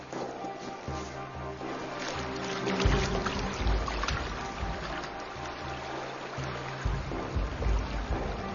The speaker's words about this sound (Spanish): La corriente es muy fuerte, porque el agua de deshielo de las montañas aumenta el nivel de los ríos.